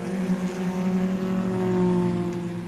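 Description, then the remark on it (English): A loud, steady engine roar hums continuously with strong low harmonics as race cars tear around a track during a 24 Hours of Lemons race on a sunny Saturday, with no voices. “On a sunny Saturday, cars tear around the track.”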